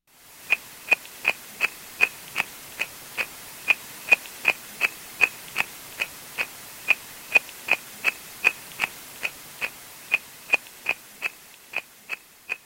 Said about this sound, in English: And it really did sound like someone was scraping away at my ear. So it was a bit disconcerting. Well, let's hear how disconcerting it is. This is tadpoles munching on a hydrophone.